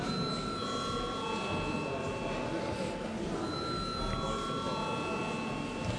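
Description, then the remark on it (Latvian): A steady electric bell rings continuously for several seconds, a bright sustained tone over low murmuring and shuffling, the call to a parliamentary vote on granting urgency to a bill amending the value added tax law. “Lūdzu, zvanu.”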